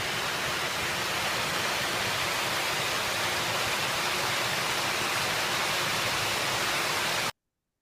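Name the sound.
running water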